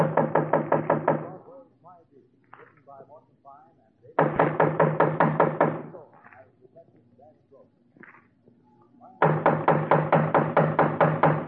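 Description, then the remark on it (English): Three loud bursts of rapid, firm knocking on a door, each a quick flurry of raps, separated by pauses filled with faint talking voices in the background. “Just knock on the door, huh, Dennison?”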